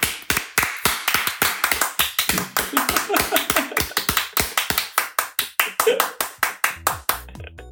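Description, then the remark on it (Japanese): Quick, uneven hand claps and taps in a rapid, irregular flurry, sharp and fairly loud, with a few faint voices murmuring underneath. “そんな拍手聞いたことない ドラゴンズの時に、 うん、いつもよっとかやる 確かに。”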